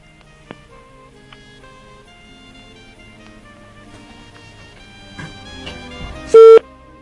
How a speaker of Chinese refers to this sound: 等一下 ，OK， 我们再拨一次，再拨一次。今天感觉手气很不顺的样子、还好我们只是打电话，没有在打牌。